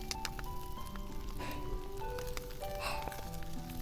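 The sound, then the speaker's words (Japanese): Cedar firewood crackles in a campfire, with sharp, irregular pops and snaps scattered over a steady, soft hiss. Nobody speaks. “それに、パチッパチッっていう薪の弾ける音が、なんともリラックスしますよね。”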